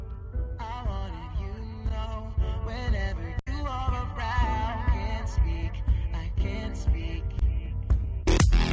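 A hip-hop song plays loud and steady, driven by a heavy, thumping bass beat under layered synth melody lines, with a brief dropout midway and a bright burst near the end.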